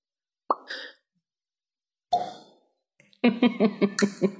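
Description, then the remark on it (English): A popping sound effect for a banishment spell sending a target back to its home plane of existence: a crisp pop rings out, followed after a pause by a second, rougher burst that trails off, then a quick rhythmic run of bubbly pops to finish, with no talking. “If the target is native to a different plane of existence than the one you're on, the target is banished with a faint popping noise, returning to its home plane.”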